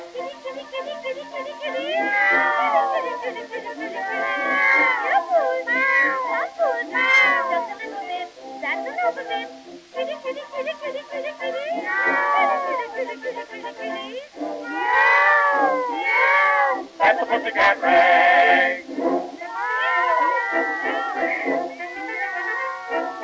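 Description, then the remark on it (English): A woman's voice imitates cats, calling them with a long, nearly unbroken run of loud meows and yowling calls, each rising and falling in pitch. “For you can hear her calling cats at any time of night.”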